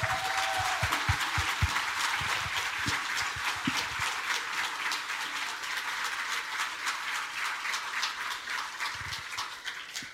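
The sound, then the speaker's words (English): A crowd of game fans at an event applauds loudly and steadily for about ten seconds, a dense wash of many hands clapping at once with a few deeper thumps and stamps early on, fading slightly toward the end. “And you guys deserve one major round of applause for all that you do for us and for supporting our product.”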